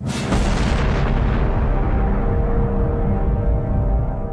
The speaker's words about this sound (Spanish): Hagámoslo por el principio. Empecemos con una gran explosión.